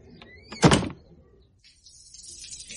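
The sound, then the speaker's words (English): A door swings shut with one solid thud, preceded by a short high squeak, then fades into a quiet, steady hiss. No one speaks. “Was that someone at the door?”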